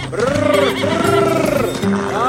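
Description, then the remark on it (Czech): A horse rears up on its hind legs and neighs loudly as its rider pulls the reins tight, one long quavering whinny that wavers up and down for about two seconds, with no voices. “Kůň se stavěl na zadní, ale tatínek mu přitáhl uzdu tak pevně, až ho posadil.”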